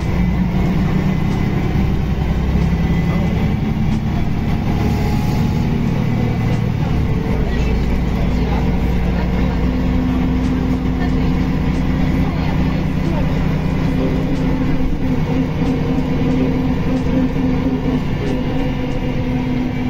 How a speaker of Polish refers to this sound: Jadąc linią 100 miałem też okazję przypomnieć sobie, jak głośne były te autobusy.